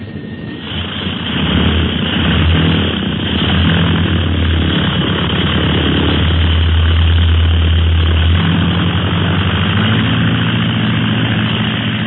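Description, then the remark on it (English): A propeller plane roars loudly and steadily as it takes off for Black Pass, its engine drone strong with a low throbbing hum throughout, no voices present. “What a beautiful takeoff. The plane is like a bird.”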